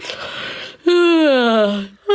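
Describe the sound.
A person's voice acts out a soft yawn of a badger in a small pit in the earth: a breathy inhale, then a long, drawn-out groan that slides downward in pitch, followed by the start of another vocal sound.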